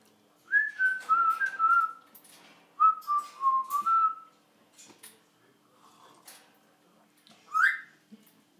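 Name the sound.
parrot whistling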